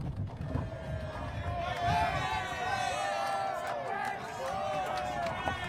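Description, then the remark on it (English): A murmuring crowd: many overlapping voices blend into a steady, fairly loud hubbub that goes on for several seconds with no single speaker standing out. “Hear them? A point you'll hear much of. Crowds.”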